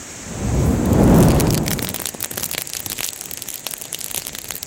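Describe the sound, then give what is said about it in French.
A low whooshing roar swells and fades over the first two seconds as a fire catches from embers fanned by hand, followed by steady, irregular sharp crackles and pops with no voices. “Et puis on entend que ça monte, quoi. On entend les crépitements.”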